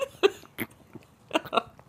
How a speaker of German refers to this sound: Oh, der schlingt diese Apfelschorle runter.